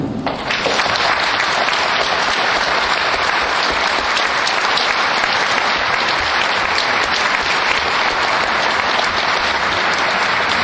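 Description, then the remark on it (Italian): Sustained applause from an audience, a dense, steady roar of many hands clapping that starts abruptly and continues loudly and evenly for about ten seconds, with no speech over it. “Mi petas vin, cun admiri ili cun mi, cae mi applaudas, cae petas vin, cun applaudi.”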